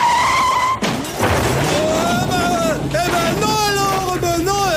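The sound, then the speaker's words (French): A car accident effect, apparently imitated by voice: wavering, high-pitched tire-skid screeches run throughout, broken by a short crashing burst near the start. It is loud and close. “Alors, j'ai reconstitué le bruitage de l'accident avec ma voiture parce que je savais pas quoi faire ce week-end.”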